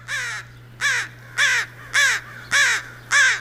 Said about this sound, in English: It's the American crow, and it's one of our listening area's loudest and most raucous species of birds, and we're going to listen to some crows here.